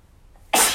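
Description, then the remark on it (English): A single sudden sneeze bursts out after a quiet moment, loud, with a sharp breathy hiss that fades quickly. “Bless you.”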